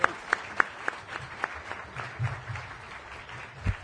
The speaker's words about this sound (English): It was my idea and only my idea to invite Governor Granholm. But let's give her a special round of applause.